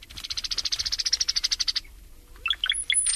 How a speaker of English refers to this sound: Over the years, humans have settled just about everywhere and brought with them cows. And along came the cowbirds.